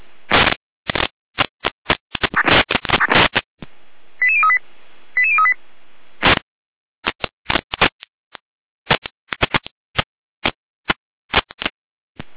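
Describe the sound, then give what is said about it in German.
Sharp, crackling bursts of radio noise come and go, broken by two quick sequences of high stepped beeping tones, the fire brigade's alerting signal, sent by the dispatch centre at 21:24 to alert the volunteer fire brigades of Heberndorf and Wurzbach to a fire alarm system at the Leistenfabrik in Heberndorf. More irregular static bursts follow, with no voices. “Leitstück Gereinde mit Alarmierung.”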